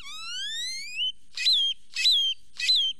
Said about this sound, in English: Or jumbled and metallic, like this great-tailed grackle's.